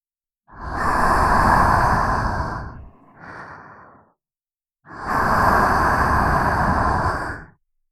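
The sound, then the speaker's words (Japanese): Two long, slow breaths are blown into the ear in airy, hissing exhales, each lasting about three seconds, the first faltering briefly near its end. There is no talking. “お耳に吐息をかけられるとどうなっちゃうんでしょう。”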